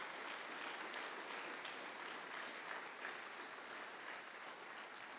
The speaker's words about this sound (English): As my dad said, can we just give him a hand clap for the word that he shared today?